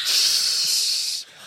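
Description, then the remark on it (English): A voice imitates static white noise with a steady, bright hiss that holds for over a second, then abruptly drops to a fainter hiss. No words are spoken. “Static.”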